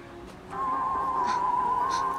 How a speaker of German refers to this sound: Wo kommt das her? Das ist mein Handy-Klingelton. Das kommt aus dem Kofferraum.